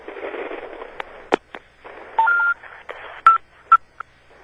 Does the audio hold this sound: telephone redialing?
yes